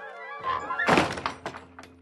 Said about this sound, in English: But it was too late. Gregory had closed the door.